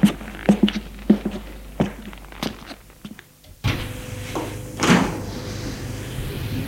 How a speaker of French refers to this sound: La porte d'en face s'est ouverte.